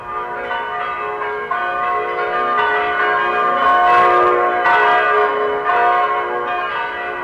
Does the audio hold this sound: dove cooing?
no